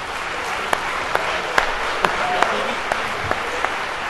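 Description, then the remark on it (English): An audience applauds a quintet that has been entertaining them, a steady dense wash of clapping, with a handful of sharper individual claps popping out above it at fairly regular intervals. “You'll be clapping all morning, so maybe another round”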